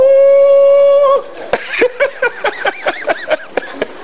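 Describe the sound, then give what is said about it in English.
A long, steady howl rings out alone, then breaks into a quick series of rising and falling yips and short barks, fairly loud. “In our area, there are sounds. There are sounds, there are sounds, there are sounds. And there are dogs.”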